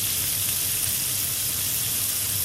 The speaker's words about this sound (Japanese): 揚げ物を揚げる音。